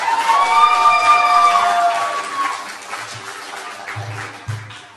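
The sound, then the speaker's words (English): A crowd of campers and staff at a camp giving a round of applause for the Concord Church, with high whoops and cheers riding over the clapping at first, then the applause carries on alone and slowly thins out. “So I want the campers and staff to give a round of applause for the Concord Church.”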